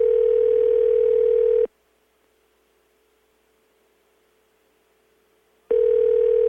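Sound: telephone dial tone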